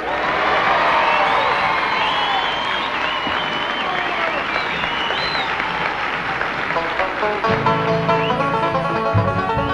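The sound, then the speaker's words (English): A large crowd of about 1,000 people in the gym at Henry James Memorial in Simsbury applauds, cheers and whoops steadily throughout, dense and loud, with scattered high shouts, welcoming the 26-string band of the Hootenanny Road Show; near the end the band begins playing under the fading ovation. “This is the largest crowd of the season thus far for the Hootenanny Road Show.”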